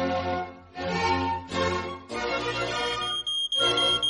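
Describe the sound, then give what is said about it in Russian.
A loud electronic smoke alarm, an autonomous fire detector, sounds in a steady rhythm of buzzy, harmonic-rich tones, each lasting just under a second and repeating without a break, signalling a fire. No one speaks. “Как вы думаете, Шерлок, кто это пищит? Никто, а что? Это АПИ.”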